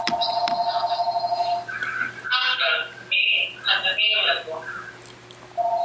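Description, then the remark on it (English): Someone's mobile phone ringtone plays a bright, melodic sequence of electronic tones during an online call, pulsing and shifting in pitch for several seconds, sounding thin and compressed as it comes through the call line. “That's not my phone.”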